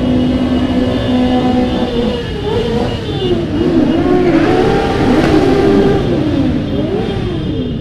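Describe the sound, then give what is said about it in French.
About 1,500 motorcyclists gathered in Montpellier, France, on 18 June rev their engines together, a dense, continuous roar of overlapping engine notes rising and falling, with no talking. “Mais 1500, ça faisait déjà du bruit.”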